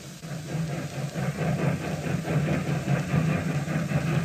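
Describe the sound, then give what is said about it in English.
A train pulls out of a station, leaving for Washington, with a steady, heavy engine rumble and a soft rhythmic chugging pulse, holding at an even loudness throughout, with no voices. “As the train pulled out, Villard, who was traveling on it, approached the sad-faced man in his private coach.”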